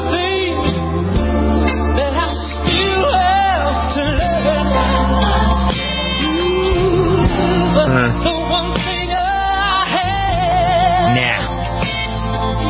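A solo singer belts out a slow, emotional song over full instrumental backing, the voice sustained and wavering with vibrato, loud and close throughout without pause.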